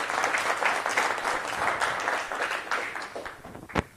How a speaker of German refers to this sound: Also während er besucht, finde ich, diese NX-Demonstration ist ein Applaus wert. Also wenn Sie wissen, was dahinter steckt.